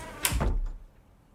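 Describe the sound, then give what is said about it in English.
An office door swings shut with a sharp latch click and a dull, low thud, fairly loud, as coworkers leave at 5 o'clock, then the room falls quiet. “But finally, as the clock strikes 5, our coworkers shuffle out the door.”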